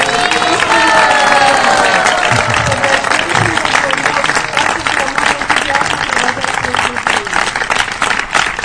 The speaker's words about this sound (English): So you please show him your genuine gratitude and affection by giving a big round of applause to encourage him to do it next year as well.